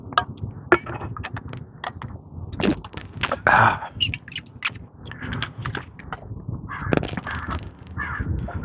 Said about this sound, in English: Crow sitting right in the top of a pine tree, telling me all about it.